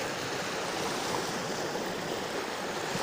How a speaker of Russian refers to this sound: Послушай шум этой воды.